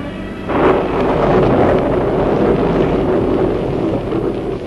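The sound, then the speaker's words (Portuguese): Constant, loud roaring of wind and churning sea in a storm on the Lake of Gennesaret, a dense low rumble with hissing spray that swells after the first moment and stays steady throughout, with no voices. “A voz de Jesus dominava a fúria do mar e o bramir da tempestade.”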